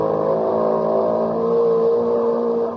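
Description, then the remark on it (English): An outboard motor engine revs steadily for a few seconds, a loud, continuous buzzing drone with a slight rise in pitch partway through, then cuts off abruptly. “Imagine that, a pony with an outboard motor.”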